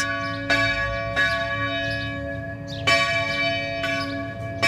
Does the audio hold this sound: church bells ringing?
yes